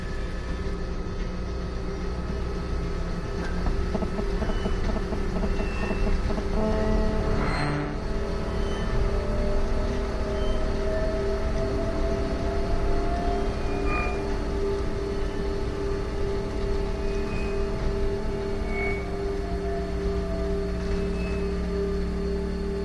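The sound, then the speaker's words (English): Steady interior rumble of a monorail train in motion in Las Vegas, with a constant low drone, tonal whines rising and falling, and a brief clunk midway, no voices. “Businessmen and tourists board the train at the convention center station.”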